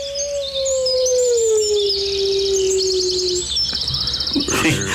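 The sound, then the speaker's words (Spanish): A coyote lets out one long, clear howl that slowly slides downward in pitch, layered over busy high-pitched chirping and yipping, ending in a brief scuffle of rustling noise. “Oyeron las voces de los animales salvajes. Coyotes y gatos de monte.”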